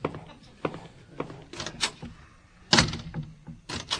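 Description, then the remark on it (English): A door opens and shuts: scattered latch clicks and handle rattles, then a firmer bang as it swings closed, followed by a few softer knocks, as Hoover lets himself out after speaking with President Ike. “I'll just let myself out then. Either door, Ike.”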